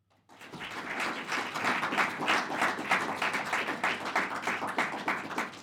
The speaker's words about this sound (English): Thank you very much for that warm, unsolicited applause there.